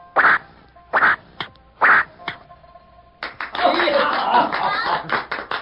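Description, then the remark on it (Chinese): Three sharp, evenly spaced bursts as a young archer shoots three arrows in a row on a village ground, then a crowd of dozens of onlookers breaks into loud, sustained clapping mixed with cheering voices that carries on to the end, as every arrow hits the bullseye. “支支都命中红心，大家拍手叫好。”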